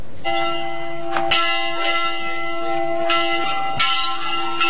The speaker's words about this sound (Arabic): عادت أجراس الكنائس لتدق في قرية ربل السورية، فالجيش السوري بسط سيطرته على القرية التي شهدت أحداثا كثيرة حتى أصبحت تعرف بقرية المخطوفين.